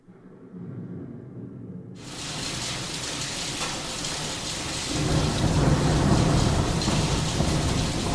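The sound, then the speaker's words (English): Low thunder rumbles, then a sudden evening downpour of heavy rain hisses in, growing louder and denser as deep rolling thunder swells beneath the steady roar of the storm, with wind strong enough to shake and rattle the windows and doors. “Towards evening, a violent rainstorm started, and the wind was so strong that all the windows and doors shook and rattled.”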